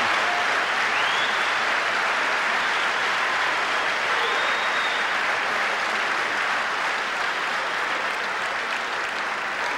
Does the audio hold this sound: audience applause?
yes